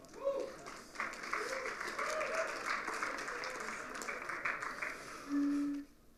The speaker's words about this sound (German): Deutschland ist ausgeschieden aus der Weltmeisterschaft. Ich glaube, das ist mal ein Applaus wert.